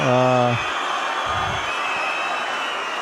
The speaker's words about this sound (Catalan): Xiulets en aquest cas són perquè el regidor de Ciutadans ha aprofitat per treure la bandera espanyola, per fer-la onejar aquí al balcó, i ha rebut els crits i una mica doncs, els xiulets també de tota la plaça en aquesta situació.